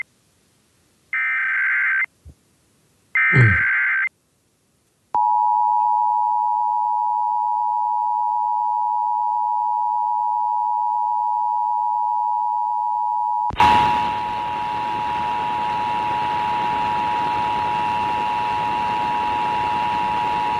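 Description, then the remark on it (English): Emergency alert system data bursts from a nationwide live code test of emergency alert system capabilities: two short, harsh, buzzing digital chirps, then a click and a long, steady, high-pitched alert tone that continues under a rush of loud static. “But these duck farts that you're about to hear, that means something. And it would mean something to a bunch of decoders.”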